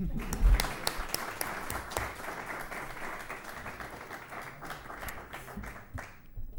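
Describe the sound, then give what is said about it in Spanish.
An audience applauds with a steady, dense patter of many hands clapping, holding at a fairly even level for several seconds before thinning slightly toward the end. “Podéis aplaudir.”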